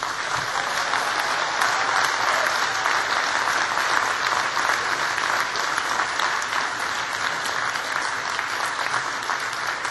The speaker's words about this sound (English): And I want you, class of 2015, to stand up. All of you, please stand up, look around, and give a big round of applause for all the people who've supported you.